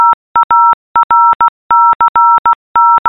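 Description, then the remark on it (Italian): Morse code beeps spelling out a name: a clear, loud electronic tone keyed in crisp short and long pulses with brief gaps, forming a steady coded rhythm on its own with no talking. “questo è il mio nome in codice Morse.”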